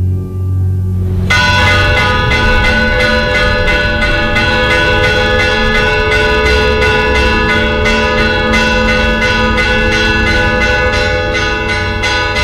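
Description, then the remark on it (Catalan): Church bells of the municipality of Algaida, Mallorca, burst into a loud, rapid fire-alarm toll after a brief quiet moment, overlapping strikes ringing continuously in a dense clanging wash. No one speaks. “Perquè, clar, si un ara escolta les campanes sonant, així de cop i volta comencen a sonar, crec que el més senzill seria pensar”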